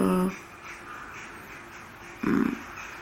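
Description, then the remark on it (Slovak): Two harsh crow caws from outside the window, one right at the start and another a couple of seconds later, each short and raspy over a quiet, steady background hum. “Mám škoda, že sú tam vrany.”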